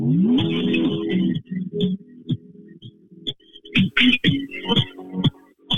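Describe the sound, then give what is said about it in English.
A snippet of funky music with a steady low groove, short punchy rhythmic hits and bright stabs, sounding thin and band-limited as if played back over a phone line. “It's probably not very good on the phone. I can hear it. It's a cheeky preview.”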